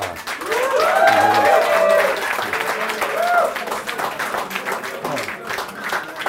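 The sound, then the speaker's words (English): An audience at a talk applauds the speaker steadily for several seconds before questions, dense clapping with a few voices and cheers rising over it early on, then gradually thinning out. “Just before we go to questions, a round of applause”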